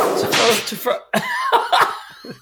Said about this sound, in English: It was unwhipped. I can't overuse the whip sound effect.